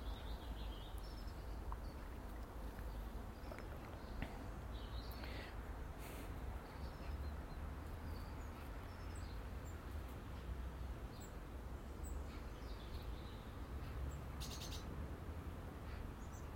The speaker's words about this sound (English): Watching the wee birdies, the dunnocks and the sparrows, getting about their business in the shrub, in the shrubbery, the shrubbery.